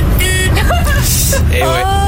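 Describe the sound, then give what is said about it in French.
A small, feeble car horn gives several short, thin honks in quick succession, fairly loud, over a low rumbling background. “Il y a ceux qui ont, là, avec leur gros camion, qui ont un gros klaxon, quoi, ils font pam pam.”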